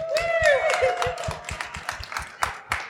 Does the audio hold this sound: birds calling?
no